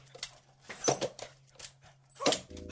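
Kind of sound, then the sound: animal, dog whimpering and barking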